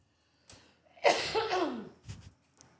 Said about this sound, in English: Okay. Yeah, the microphones didn't pick up on that at all. No, I didn't hear it. Oh, did it? Not yours, but ours. Oh, sorry. You cough with the force of four winds. I'm sorry.